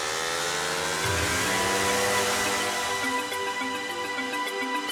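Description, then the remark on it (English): A backpack paramotor engine strapped on a pilot's back runs continuously, a loud, steady buzzing drone with a whiny harmonic edge whose pitch wavers slightly as it revs. No one speaks. “Now he straps an engine on his back after years with engines between his knees.”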